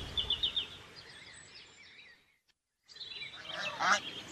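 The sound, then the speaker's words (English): Geese honk repeatedly in a noisy flock, calls overlapping, then a brief silence before another loud burst of honking resumes. “You didn't tell me there were sheep here. Or geese.”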